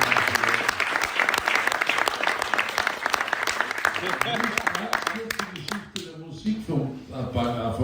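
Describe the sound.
An audience bursts into loud, dense applause, a steady crackle of many hands clapping for about six seconds before it thins out and a voice begins speaking.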